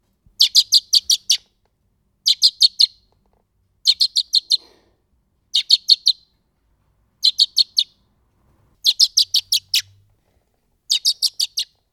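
Blackbird chicks give food-begging calls: thin, high-pitched cheeps in quick bursts of four or five, repeated about every two seconds. They are fairly loud, with no talking.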